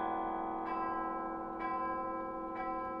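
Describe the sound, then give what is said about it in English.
Tower chimes ring out in a slow sequence, three bell strikes about a second apart over a dense, lingering wash of ringing overtones, steady and fairly loud with no voices. “You can't be a perfectionist and play these chimes.”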